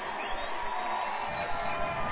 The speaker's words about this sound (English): And you hear this Viking crowd in the background. They're getting excited.